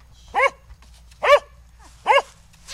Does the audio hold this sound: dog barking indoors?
yes